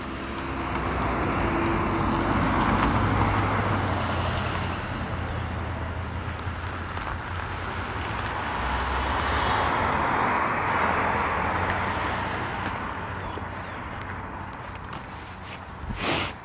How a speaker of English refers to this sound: A lot of traffic here this morning. It's actually this afternoon.